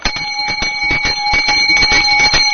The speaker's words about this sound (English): Now, that was a boy's bell. That was a boy's bell, huh? Yes. Ours had a throatier, deeper sound. That was the boy's bell, was it? Yes. That's amazing. That's amazing that you'd know that. That's a blind school bell if I ever heard one